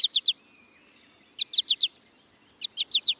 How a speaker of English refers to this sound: American goldfinch males sing a bright, bubbly song and nearly always call in flight with a sweet four-syllable.